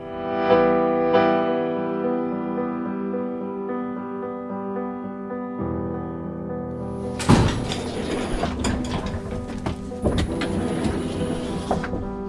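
A steady mechanical hum drones for several seconds, then a sharp clunk sets off a louder whirring, rattling motor sound with scattered clicks as a security airlock door mechanism operates at Södertörn District Court (Södertörns tingsrätt). People are let in one at a time before the door on the other side opens. No one speaks.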